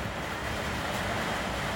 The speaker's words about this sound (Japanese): ちょっと雨がすごいですね。雨季に入って大体夕方から夜中にかけてあうるさい。ほぼ毎日雨降ってます。